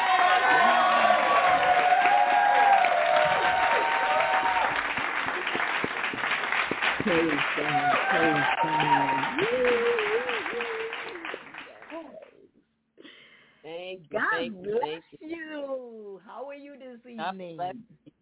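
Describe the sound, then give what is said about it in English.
A church audience breaks into loud, sustained hand-clap praise with cheering voices for about twelve seconds, welcoming a woman who will lead the evening Bible lesson, then the clapping fades and a single person begins speaking. “So we're going to welcome her with a hand clap praise.”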